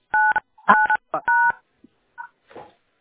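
Several short telephone keypad tones beep in an uneven sequence, loud, like buttons pressed on a phone during a phone call, with a few faint blips and a brief noisy burst trailing after.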